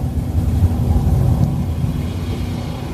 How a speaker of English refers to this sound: The rocket is climbing towards an altitude. We're aiming just over the Kármán line, the internationally recognized line of space of 100 kilometers. That is about 328,000 feet.